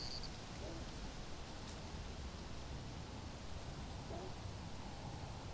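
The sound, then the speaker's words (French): A torrent cricket trills softly in high, thin pulses, starting about midway and continuing to the end, with a short gap, over a steady low rushing background, by a small temporary pool in the otherwise dry, pebbly bed of the Roubion river. “c'est le grillon des torrents. Ténorbius, je crois, c'est l'Ineolatus. On en entend un qui trille doucement.”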